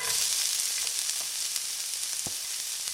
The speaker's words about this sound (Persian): چقدر اینجا شلوغه، یعنی این صدای قل زدن، سرخ شدن، اینا واقعا صدای مورد علاقه منه. من که لذت میبرم، شما چطور؟ به قول دوستان گوش قلقلی ها رو توی مایتابه یه تابش میدم تا قشنگ همه جاش سرخ بشه.